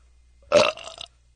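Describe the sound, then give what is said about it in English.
A single short, wet burp during a burping contest erupts loudly, gurgling briefly before trailing off into a softer, rattly tail. “That was a wet one.”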